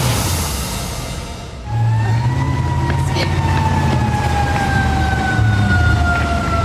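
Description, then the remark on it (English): An emergency alert siren on the UNC campus in Chapel Hill, sounded over a threat of a person with a gun, starts after a second or so: a loud, sustained wailing tone that holds high and then slowly drifts lower, sounding over a steady rumble of background noise. “It's the sound that strikes fear in the hearts of students and staff at UNC and their families at home.”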